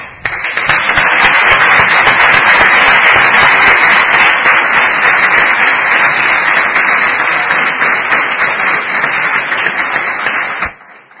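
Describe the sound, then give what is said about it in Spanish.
Sustained, loud applause from a crowd for Alcorcón coach Fabriciano González 'Fabri', marking the club's promotion the previous year. A dense wash of many hands clapping holds at a steady level for about ten seconds before cutting off abruptly. “Este aplauso es por el ascenso del año pasado.”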